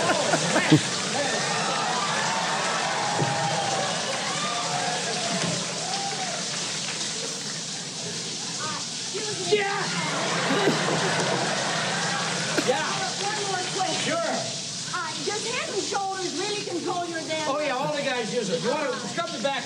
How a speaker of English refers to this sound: Why'd you get in the shower at the end